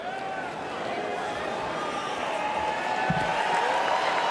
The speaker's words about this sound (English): Delegates are hearing from a lot of speakers tonight, but someone who said nothing may have gotten the biggest cheer so far.